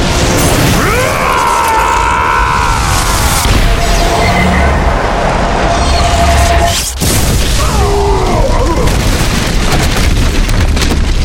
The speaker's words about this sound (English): Only Kylo was still standing, shielded from the magical explosion by the Kakari covering his skin. The men fell in all directions, but Kura Kalesta stayed in the center of its own storm.